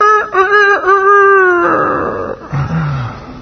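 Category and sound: bird, rooster crowing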